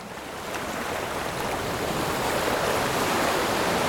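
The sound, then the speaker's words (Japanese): A massive roar of rushing, crashing water swells in within the first half second and then pours on steadily and loudly: walls of sea water tens of metres high collapsing as the sea returns, with no voices. “それまで一晩にわたって何十メートルもそそり立っていた海の壁はたちまち目の前で崩れ落ちた。”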